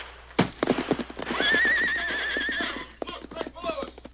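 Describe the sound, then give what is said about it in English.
Silver, the Lone Ranger's great white stallion, lets out a loud, drawn-out whinny that rises and wavers for over a second, surrounded by a quick, clattering run of hoofbeats. “Knowing that Silver, his great white stallion, possessed instincts that were infallible in an emergency, the Lone Ranger swerved suddenly and leaped for the horse's back.”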